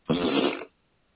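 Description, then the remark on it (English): A single loud, buzzy raspberry sound made with the mouth, imitating a fart, lasting about half a second before cutting off into silence. “I make a fart noise now.”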